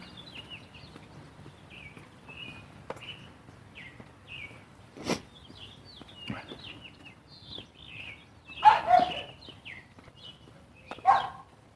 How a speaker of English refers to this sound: Bunch of chirpy birds out this morning, little yappy dogs.